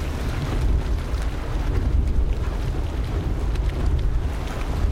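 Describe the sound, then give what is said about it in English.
Dragon's Mouth, a turbulent hot spring in Yellowstone National Park about 16 feet deep with 170-degree Fahrenheit water, churns with a steady, deep rumbling roar. Rising gases cause pressure explosions in the spring's cavern, making faint bursts and splashes of gurgling water. It is continuous and fairly loud, with no voices. “Yellowstone National Park's Dragon's Mouth is a turbulent hot spring about 16 feet deep with water temperatures of 170 degrees Fahrenheit.”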